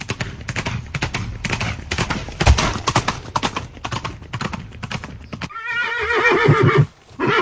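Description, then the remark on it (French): A horse's hooves clip-clop in a quick, steady rhythm for several seconds, then a loud whinny rings out with a shaky, wavering pitch before a brief pause. “L'équitation, c'est un sport, un loisir ou un art qui se pratique avec un cheval ou un poney.”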